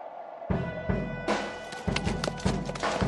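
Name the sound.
horses' hooves clip-clopping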